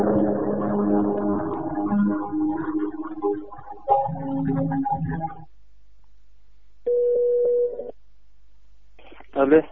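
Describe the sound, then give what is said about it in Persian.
A voice talks over line noise, then after a pause a single steady telephone tone sounds for about a second, followed by a short burst of voice as a Radio Neda call to the legal office of Ahvaz Municipality District 4 connects. “گوشی خدمتتون تا من ارتباط بدم با دفتر حقوقی.”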